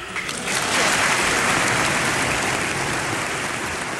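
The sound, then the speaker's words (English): Loud, sustained applause from a large crowd in the U.S. Congress for Mexican president Fox's speech in Spanish, a dense crackling wash of many hands clapping at once that swells in the first half-second and holds steady throughout, with no talking. “Fox even spoke to Congress about it, in Spanish, to rapturous applause.”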